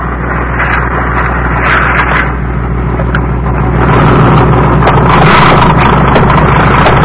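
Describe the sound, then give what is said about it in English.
A small boat moves steadily through water as it comes in to the coast at low tide, its low motor droning beneath a constant rushing wash and wind, fairly loud, swelling slightly partway through with no voices. “This boat hasn't wheels. You'll have to walk the last 10 feet in.”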